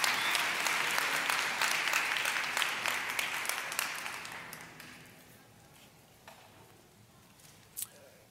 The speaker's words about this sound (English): Come on, would you clap your hands to him one more time as you're seated today? God bless you.